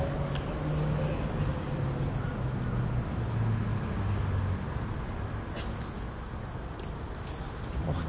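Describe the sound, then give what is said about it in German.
A motor vehicle passes close by, its engine rumbling low and wavering in pitch over a continuous wash of road noise that stays fairly loud throughout before easing slightly. “Ich nehme fast an, ein Auto oder ein Motorrad oder ein Moped.”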